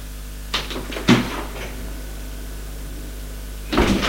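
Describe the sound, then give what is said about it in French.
A house door being opened: a couple of latch clicks and a solid knock, a quiet pause, then a rougher shuffling clatter near the end, with a steady low hum throughout. “Et ouvre la porte de la maison.”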